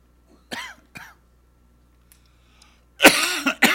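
Two short, soft coughs, a quiet pause, then a louder burst of harsh coughing and throat clearing, with no talking.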